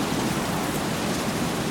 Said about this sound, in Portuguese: Só se ouve o vento.